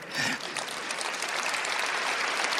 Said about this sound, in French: Merci. Merci surtout si vous accompagnez l'applaudissement avec votre prière.